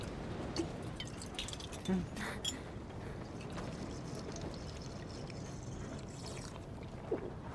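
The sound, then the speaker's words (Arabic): Water trickles and drips from a bottle in a few small splashes over a steady hiss of background noise, with faint muffled voices underneath, as a bottle of water is offered for a sip. “لديك ماء؟ أتريد رشفة؟ تفضل.”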